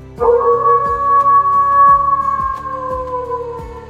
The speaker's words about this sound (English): Then she heard a deep growl. And an ear-splitting howl.